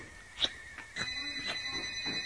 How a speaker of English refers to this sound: Did you hear the phone?